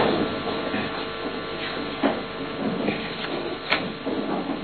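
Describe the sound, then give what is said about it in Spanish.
Muffled scraping and dragging, like chairs and tables shoved across a floor overhead, a steady rumbling grind with a few sharper scrapes standing out, no voices. “Digo yo, mientras arriba hay una verdadera orgía de sillas y movientes. Una carrera de mesa.”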